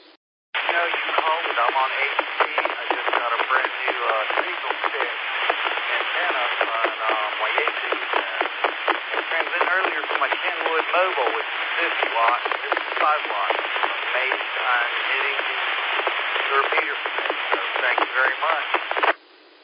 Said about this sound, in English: you're just barely making it over the white noise